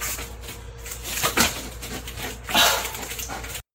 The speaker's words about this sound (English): The dog made two saves with his mouth on a foam puck. And the video went on a little longer, but I don't think he scored.